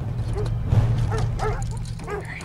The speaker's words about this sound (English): A pack of dogs run towards the garage.